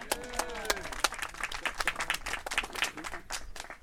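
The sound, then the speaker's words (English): An audience applauding: steady, dense clapping from many hands, with a few brief voices and a faint tonal trace near the start, continuing at an even moderate level throughout. “You can applaud.”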